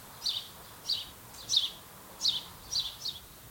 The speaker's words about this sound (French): En fait, pour y aller, il faut prendre une allée où il y a beaucoup d'arbres. Je vois un cerisier. Il y a plusieurs arbres fruitiers. Et dans ces arbres, vous les entendez, il y a plein d'oiseaux.